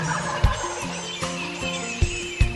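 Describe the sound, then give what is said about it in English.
A wild turkey tom gobbles, answering a hoot owl's call, with a loud, rapid, warbling rattle. Steady tones and a few sharp thumps sit underneath, and no one speaks. “Now old Tom answering a hoot owl's call.”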